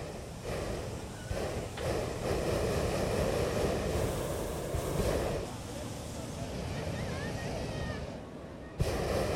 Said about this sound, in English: This is hot air, or the gas jets used to heat the air that lifted the hot air balloons off the ground at the 2018 Kentucky Derby Festival Great Balloon Race.